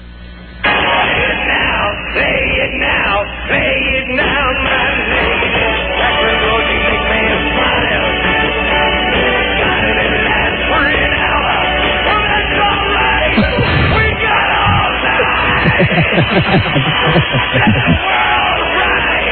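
A muffled, lo-fi tape recording of a live concert: a singer screams hoarsely over a roaring crowd, the dense noise staying loud and unbroken from start to finish.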